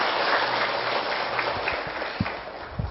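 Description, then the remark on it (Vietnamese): A crowd claps steadily for a few seconds, a dense, even patter of many hands at moderate volume, with a few heavier thumps near the end. “Trước hết sưởng tràng pháo tay hoan nghênh tinh thần của các vị.”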